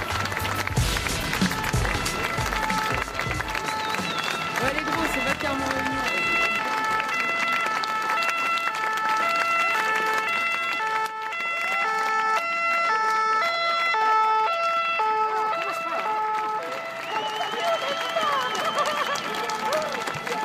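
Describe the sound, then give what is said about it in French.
A crowd claps steadily and loudly for about twenty seconds, with a wailing two-tone siren sounding through the applause and some voices mixed in. “Ce son, c'est celui qui nous glace le sang depuis 20 jours. Oh là là, c'est horrible. Des gens qui applaudissent.”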